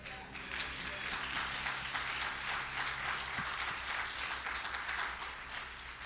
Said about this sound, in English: Well, that's a good place to clap.